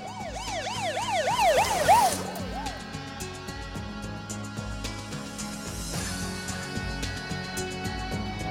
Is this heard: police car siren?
yes